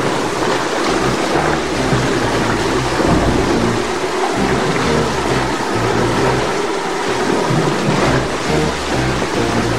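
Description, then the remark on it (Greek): A violent thunderstorm in Spain: heavy rain roars steadily, with deep rolling thunder rumbling underneath throughout, a dense, loud storm with no voices. “Να πάμε τώρα μέχρι την Ισπανία, καθώς εκεί μια σφοδρή καταιγίδα αλλά και η έλλειψη μέτρων αντιπλημμυρικής προστασίας προκάλεσαν χάος σε πολλές περιοχές της χώρας.”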